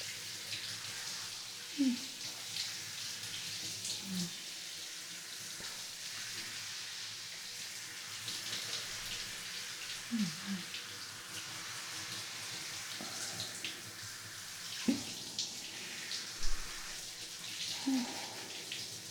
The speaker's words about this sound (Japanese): それじゃ、目つぶっててね。今シャワーで洗い流すから、目開けると痛いからね。さて、失礼します。しっかり洗い落としてすっきりしようね。泡が残んないように。